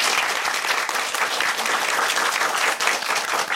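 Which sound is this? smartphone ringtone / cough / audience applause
audience applause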